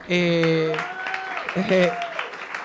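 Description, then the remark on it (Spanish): A short burst of audience applause at a debate, given for the debate's main organizer: scattered claps rattling under sustained voiced cheering or calls, fairly loud, lasting a couple of seconds. “quiero que le demos un aplauso al artífice máximo de este debate”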